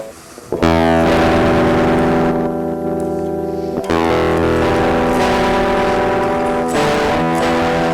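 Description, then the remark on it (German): A heavily distorted electric guitar, run through a distortion plugin set fully wet, rings out in dense, saturated sustained chords, loud, with a sharp re-strike near the middle and no voices over it. “Kann man auch in die Signalkette geben für ein bisschen mehr Verzerrung.”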